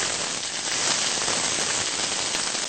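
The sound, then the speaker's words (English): Steady, bright sizzling of chopped food frying in a hot pan, a dense hiss with fine crackles and pops running continuously at an even loudness, with no voices. “Hear it sizzle nicely.”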